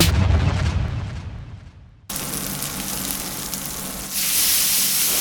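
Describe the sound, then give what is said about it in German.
Meat sizzles in a hot pan in Dortmund, Germany, a steady crackling hiss with popping fat. It cuts abruptly to a fresh burst of sizzling that swells louder and brighter near the end. “Wo Martin Hesterberg aus Dortmund brutzelt, kommt vor allem eins auf den Teller: gutes Fleisch.”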